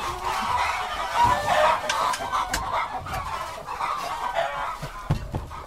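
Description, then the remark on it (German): Several chickens in a stable cluck and murmur continuously, with overlapping calls and a few sharper squawks near the end. No one speaks. “Erinnert mich ein bisschen an die Hühner bei Findus und Pedersen.”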